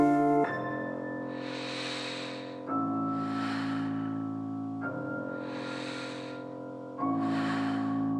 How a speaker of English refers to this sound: The duvet is heaving with my gentle breathing.